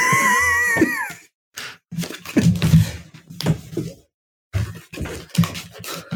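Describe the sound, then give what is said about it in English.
A rescue cat, no longer small, gives a drawn-out, wavering meow, followed by a series of soft bumps, scrapes and rustles as she pushes a door open against cushions. “That was our little, well, not so little these days, rescue cat Tinsel”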